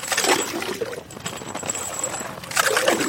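Frigid water gurgles and sloshes up through holes that fishermen drilled with an ice auger in foot-thick ice on the frozen river in Kyiv, by the bridge linking the right and left banks. Two splashy surges come at the start and end, with a softer bubbling churn between them.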